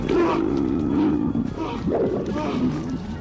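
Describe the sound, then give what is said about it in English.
Loud, sustained screaming from the Japanese horror film Ju-on, later remade in America as The Grudge: a rough, roaring cry that holds steadily for about three seconds, its pitch wavering and straining, with no words spoken. “That's Japanese screaming there that you maybe recognize from Godzilla movies.”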